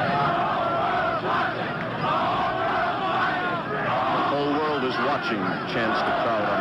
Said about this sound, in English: A shot of gas, is it? And more bottles being thrown here and there by the crowd.